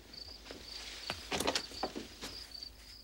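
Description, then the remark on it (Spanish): A door opens quietly with a few clicks and scraping rattles from the latch, over a steady high-pitched insect chirr in the background, as a woman opens her door while a man approaches it from the terrace balcony. No one speaks. “Cubierto de barro y hierbajo, se acerca a la puerta de Nadia en el momento en que ella abre.”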